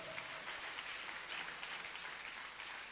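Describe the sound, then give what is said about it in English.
An audience claps steadily for Jesus Christ, a dense wash of many hands blending into continuous, bright applause at an even level with no talking over it. “Hey, clap for Jesus Christ.”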